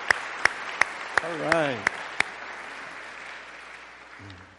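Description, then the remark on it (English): An audience applauds in a steady wash of clapping, with a few sharp, louder claps landing at a regular beat and a brief vocal whoop, fading as someone starts speaking. “Let's hear it again”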